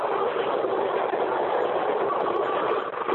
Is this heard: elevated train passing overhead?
yes